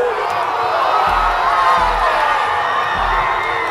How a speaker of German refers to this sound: Der Jubel in Lissabon auf der Fanmeile beim 1:0 in der Nachspielzeit. Das Tor, mit dem sich Portugal den Titel gesichert hat.